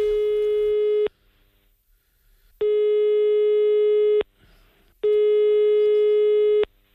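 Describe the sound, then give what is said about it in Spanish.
A steady electronic telephone line tone sounds in three long bursts of about a second and a half each, separated by short silences, while a phone call is being placed, with no voices. “¿Hay línea ahora mismo? Pues llama por teléfono que tenemos ahí una cosa pendiente.”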